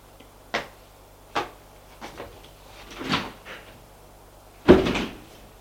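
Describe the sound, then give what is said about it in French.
A bedroom door is opened and shut: a couple of sharp wooden clicks and knocks, some rustling movement, then a final solid thud as it closes. No one speaks. “Il se lève, le prend par la main et sort de la chambre.”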